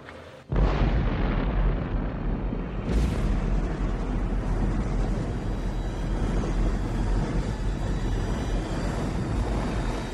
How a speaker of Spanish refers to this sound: Así vivió esa explosión el físico Edward Teller. Se fue haciendo cada vez más brillante.